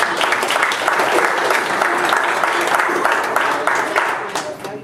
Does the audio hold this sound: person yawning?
no